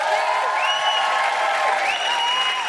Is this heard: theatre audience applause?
yes